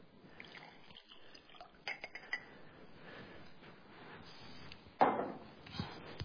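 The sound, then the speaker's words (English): A tea bag dipped into a cup of hot water that had been boiling: quiet drips and small sloshes, with one slightly louder splash near the end. Nobody speaks. “This is a tea bag. This is hot water.”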